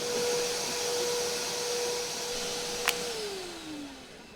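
A vacuum cleaner drones steadily and fairly loud, with a brief click near the end as its motor pitch begins winding down. No one speaks.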